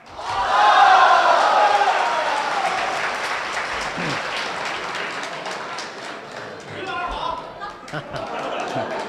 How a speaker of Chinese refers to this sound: 大家好，大家好。 谢谢朋友们的掌声鼓励。哎，如果说您这个掌声再热烈点会更好。